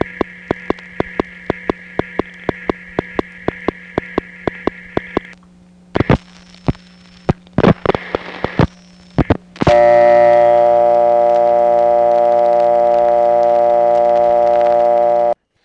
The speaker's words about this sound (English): Now that is almost what it sounds like to get a dial tone from a normal home phone line in a panel office.